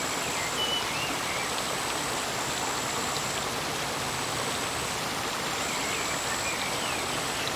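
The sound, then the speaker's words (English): Steady, full-bodied flowing water rushes without pause, with scattered drops pattering through it, while a thin high-pitched tone hovers faintly in the background. No one speaks. “The water, the details it carry, the drops, the width of the image, and the repetitive cycles that allow continuity and gentle changes to arise.”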